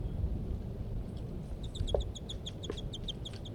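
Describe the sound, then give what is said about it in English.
Two birds, a female and a male known as M4, call in a quick run of short, high-pitched chirps repeated at a steady rhythm, fairly faint over a constant low rumbling background, with an occasional lower note mixed in. “There the birds go.”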